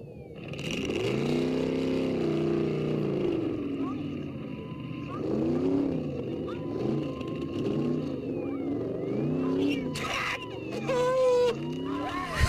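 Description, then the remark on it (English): A car engine in a 1970s film clip drones and revs up and down in repeated surges, loud, while a woman shouts at the car in bursts. “This is this woman yelling at this car. It's another great clip from the 1970s.”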